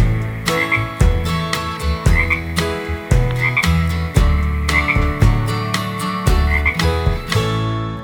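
Frogs croak loudly in a steady, repeating rhythm, the throaty calls layered over one another with no talking.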